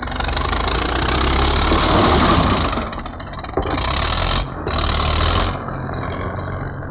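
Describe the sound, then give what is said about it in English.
Bulldozers clearing earthquake rubble and knocking down weakened walls rumble and grind at full power in a loud, steady roar of heavy engines and scraping noise, with brief dips in intensity before surging again. “Bulldozers scraping and pushing the rubble out of the way, knocking down weakened walls before another tremor could bring them crashing down unexpectedly.”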